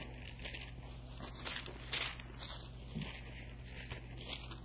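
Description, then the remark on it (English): Soft papery rustles and crackles come in a few brief bursts as thin Bible pages are turned to Acts chapter 10, with a steady low hum underneath and no one speaking. “And I'm telling you the truth as I turn the pages to Acts chapter 10.”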